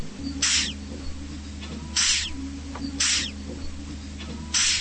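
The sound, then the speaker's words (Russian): Four short, breathy hisses from a giant hissing cockroach, a live exhibit in a scientist's collection, each under a second, spaced irregularly over a steady low hum, moderately loud. “Именно с этой целью ученый пополнил коллекцию из тысячи неживых экспонатов живыми – жуками, пауками, скорпионами и огромными тараканами, шипящими, как кошки.”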